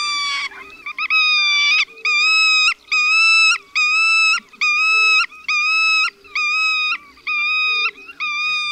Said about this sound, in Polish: Zupełnie inaczej brzmią na lęgowisku głosy ptaków dobranych już w pary. Przed poderwaniem się do lotu ptak alarmuje serią zawodzących jęków.